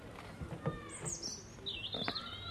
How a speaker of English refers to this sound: All you hear is the birds usually.